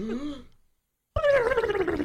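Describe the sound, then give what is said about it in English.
A voice imitates Donald Duck's sneeze: a short raspy, gargling squawk, a brief silence, then a longer, louder sputtering burst with a wavering, buzzy pitch. “would you like to try the Donald Duck sneeze?”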